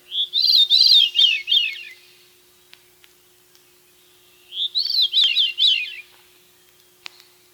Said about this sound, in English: Thrushes often sing throughout a drizzly day. The hot sun silences them by mid-morning on those unpleasant, clear days. The song of a Veery would cheer even the most ardent sun worshipper.